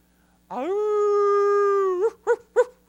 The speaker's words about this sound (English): And all of a sudden, a pack of coyotes started going crazy.